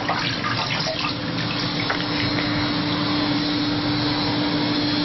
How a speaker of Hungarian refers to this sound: A kézmosás még a telepvezetőnek is kötelező.